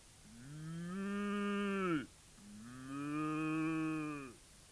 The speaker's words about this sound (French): Pauvre Amélie, on l'a capturée, attrapée, et on l'emmène au zoo. Elle meugle dans la nuit.